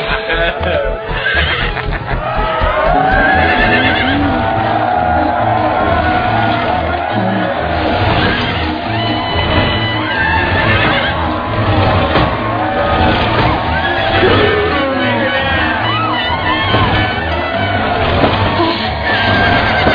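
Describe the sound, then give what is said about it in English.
A horse neighs and whinnies again and again, loud, its cries rising and falling over a busy background of crowd noise and occasional shouts. “You're gonna break the horse, Betty.”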